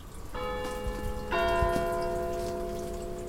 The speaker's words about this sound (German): Die ersten 4 Jahre lang hast du den Klang einer Tessiner Kirchenglocke gehört.